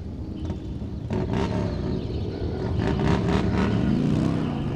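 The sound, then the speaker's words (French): Motorcycle engines rumble and rev loudly, a low throaty roar that builds and holds steady as the motorcycles ride off together, with no voices present. “Après avoir discuté, les loups motards vont à la maison des chèvres pour préparer leur piège.”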